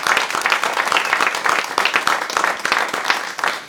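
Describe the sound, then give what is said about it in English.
A crowd at a workshop applauds steadily for the songs just heard, many hands clapping in a dense, fairly loud wash of overlapping claps that holds even throughout without a pause or any voices rising above it. “One more round of applause for all the songs we just heard.”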